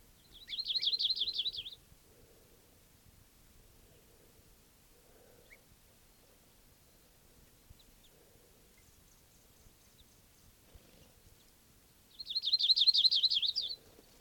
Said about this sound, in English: Flock foraging around here. Alarm calls of a bird.